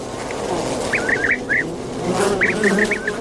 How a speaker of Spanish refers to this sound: Este es el abejaruco, que es un sonido característico del Monte de Toledo.